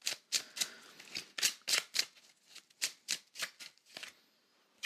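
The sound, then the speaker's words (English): Tarot cards being shuffled, a steady run of crisp, papery riffles and slaps in quick repeated bursts, with no voices. “So with that, let's pull some tarot for the week.”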